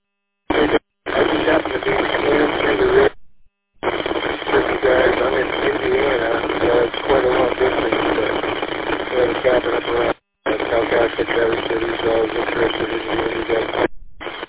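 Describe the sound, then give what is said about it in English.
A noisy amateur radio transmission crackles with heavy static, its band-limited hiss broken by a few sharp dropouts while a faint, garbled voice struggles to come through. “Pretty noisy, but you're getting in.”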